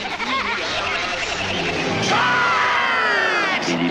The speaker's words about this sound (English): Well, it sounds like a crowd.